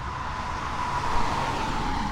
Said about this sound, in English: And he's just still sitting there as the cars drive by.